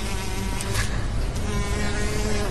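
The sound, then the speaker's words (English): A bee buzzes steadily for a couple of seconds, a dense, continuous droning hum with slight wavering in pitch and no voices. “A bee.”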